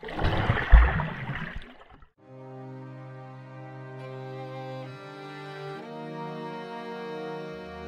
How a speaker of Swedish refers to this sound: Ett sista andetag. Och jag dyker ner i det kolsvarta vattnet.